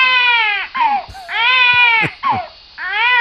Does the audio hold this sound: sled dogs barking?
no